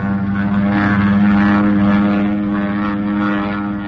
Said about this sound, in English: Take a look directly in the sun. Airplane. Well, it might be ours. Yeah, it might be, but get under cover. That's no plane of ours. That's a Mitsubishi if I ever saw one.